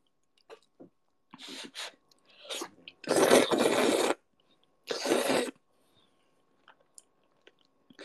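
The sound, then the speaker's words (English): Wet chewing and slurping of food, with a few short smacking bites followed by two longer, louder slurps, then faint mouth clicks trailing off. “That slurp was kinky.”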